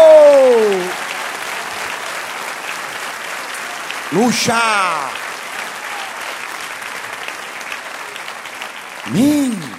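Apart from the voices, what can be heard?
audience applauding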